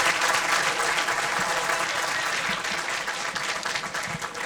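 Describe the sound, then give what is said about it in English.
A crowd applauds steadily, a dense wash of many hands clapping at an even, fairly loud level that holds throughout with only slight swells and dips. “Want to have a great big round of applause”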